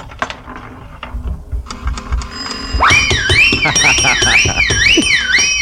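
A nickel slot machine pays out a jackpot: brisk mechanical clicks and whirs, then a loud, steadily warbling alarm tone repeats over a continuous rattling clatter of coins.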